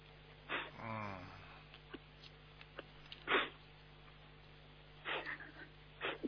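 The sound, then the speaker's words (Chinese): Several sharp sniffles from a person crying, spaced a few seconds apart, with a short wavering sob-like whimper near the start, set against a quiet hum. No one talks. “不要哭好吧？你一哭的话，师傅改不了了。”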